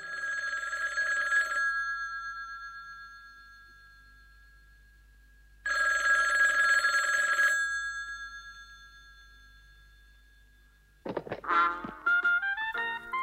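A telephone rings twice, each bright, buzzing burst lingering and fading into a pause, followed by a quick run of stepped electronic tones as an answering machine picks up.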